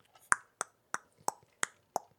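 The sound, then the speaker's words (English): A steady series of six sharp knocks on a door, evenly spaced about a third of a second apart, each a crisp bright rap with a quick decay and no voices. “I'm knocking on the door.”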